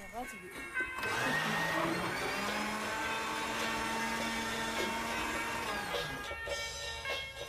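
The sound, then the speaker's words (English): A blender mixing butter to make butter tea whirs loudly at a steady pitch for several seconds, starting abruptly and cutting off near the end, with faint speech underneath. “His mother adds butter to a blender.”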